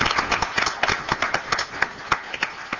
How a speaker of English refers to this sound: So we'll give everybody a round of applause. Thank you.